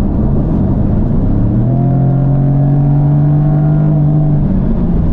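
A turbocharged 2.0 car engine with 300 horsepower and 40.8 kgfm of torque at 1,500 RPM revs up under hard acceleration, its deep rising drone swelling loud before holding steady, with a broad road rumble underneath and no voices.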